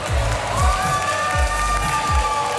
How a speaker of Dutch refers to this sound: Dus geef er even een mooi applausje als jullie willen.